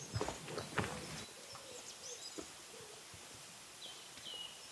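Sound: birds chirping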